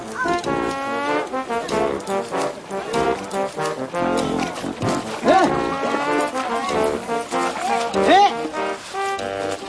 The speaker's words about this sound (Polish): Te krzyki, które słyszycie, to polecenia, jakie pan wydaje słonikowi. Ciekawe, czy ktoś potrafiłby powtórzyć.